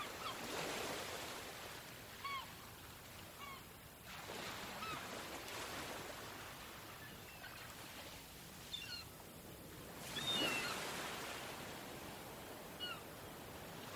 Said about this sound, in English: The sound of waves that reach the coast is really comforting.